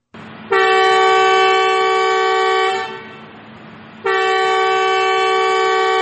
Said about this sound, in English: That is one of the six new trains running for the first time in the Sudanese capital, Khartoum. It is carrying state officials on the test trip from Khartoum's main station to Khartoum North Station.